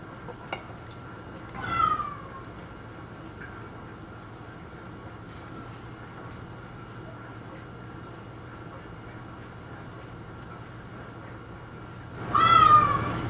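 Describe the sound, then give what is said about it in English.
A cat meows twice, once early and again about ten seconds later, each a short rising-and-falling cry heard over a steady low rumbling hum. “Shut they're up, kitty.”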